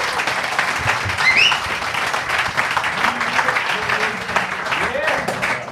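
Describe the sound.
Sustained audience applause for a performer at a live show in the Knülljause, a dense crackle of many hands clapping at steady loudness for several seconds, with faint voices and brief whoops mixed in underneath.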